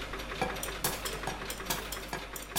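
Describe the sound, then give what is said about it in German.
Sewing machines whir and clatter in a busy sewing workshop making jackets, with rows of workstations of sewing, ironing and pressing machines. Repeated mechanical bursts and clicks sound over a steady low hum, moderately loud, with no talking. “Reihen von Arbeitsplätzen mit Nähmaschinen, Bügel- und Pressmaschinen und Gerätschaften, die Ärmel oder Hosenbeine aufspannen.”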